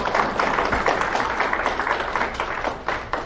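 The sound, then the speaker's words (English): A church audience, standing at the close of a sermon, gives the Lord a hand clap: a dense, continuous patter of many hands with small rhythmic surges, fairly loud and without voices over it. “If you understand that message, give the Lord a hand clap.”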